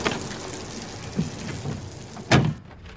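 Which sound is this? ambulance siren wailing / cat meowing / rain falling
rain falling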